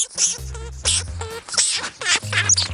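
A lemming calling in a rapid series of about four or five harsh, squeaky chirps, each with a buzzy, rasping edge, fairly loud and with no talking over it.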